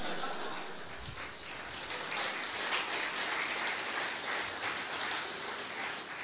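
An audience claps in a steady, dense burst of applause that holds at an even loudness for about six seconds, with no voices breaking through.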